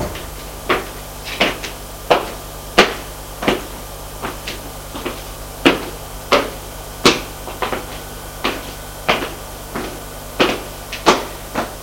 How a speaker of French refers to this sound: Il frappe à une porte.